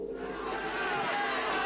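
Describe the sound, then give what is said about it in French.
A rowdy crowd of disheveled young people floods a narrow, dirty street, shouting and yelling together in a dense, continuous roar, loud throughout the brief moment, with many voices overlapping and no single speaker standing out. “il voit une foule de jeunes débraillés envahir la rue.”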